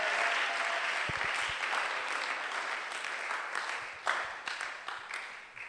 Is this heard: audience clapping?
yes